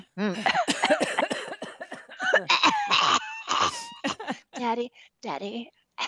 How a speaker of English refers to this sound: Daddy, listen how big I'm coughing.